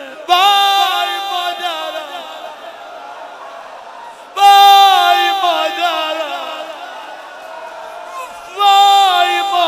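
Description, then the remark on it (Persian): A large crowd wails loudly in grief at a night-time mourning gathering for a martyrdom, the massed voices surging in three long, sudden swells that each slowly fade before the next cry rises. “کسی آروم گریه نکنه.”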